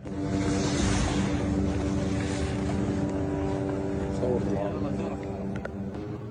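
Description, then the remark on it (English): A continuous, droning buzz of drones overhead above the Al-Aqsa Martyrs Hospital grounds in Gaza, where workers carry bodies and bury them in a large mass grave; a steady motorized hum with a layered whine that holds fairly loud for the whole stretch over rough outdoor background noise. “workers transporting the bodies and burying them inside a large gravesite next to the hospital as drones buzzed overhead.”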